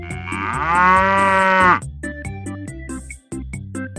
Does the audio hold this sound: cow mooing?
yes